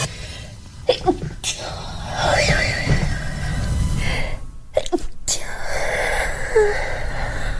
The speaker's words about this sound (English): It's quite a polite sneeze. It's a cute sneeze.